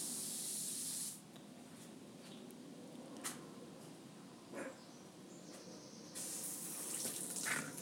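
A loud, hissing spray of water bursts out of a pipe as its pressure is released, lasting about a second, drops to a low rush with a few faint clicks, then surges back into a strong steady hiss near the end.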